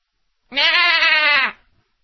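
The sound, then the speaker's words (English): A single loud goat scream lasting about a second, a harsh wavering bleat with a strained, almost human quality, cutting off abruptly with no talking. “That's what the goats are screaming about.”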